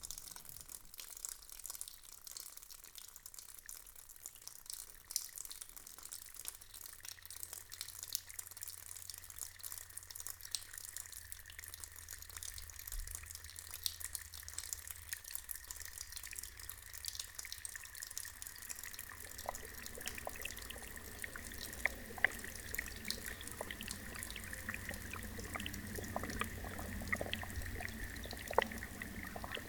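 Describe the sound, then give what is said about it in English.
Water spatters and trickles onto stone in a continuous crackling wash, fairly quiet, growing busier with sharper splashes toward the end. “Bacteria, colour, water spattered stone.”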